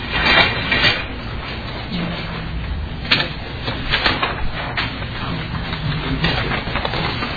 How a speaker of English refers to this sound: I actually have a wealth of testifiers here today. If the representative from Austin would like to come forward as well. Pull up more chairs.